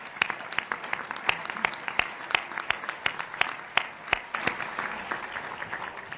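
A crowd applauds steadily for about six seconds, many overlapping hand claps forming a dense, crackling patter with a few sharper claps standing out, moderately loud and with no one speaking.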